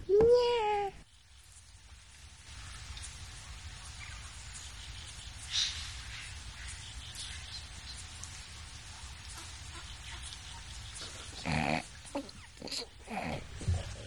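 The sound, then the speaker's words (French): A pig grunts and snorts, opening with a loud squealing burst, then falling quiet over a steady soft hiss before a few more short grunts near the end. “Je suis un porc et mes enfants sont des porcelets.”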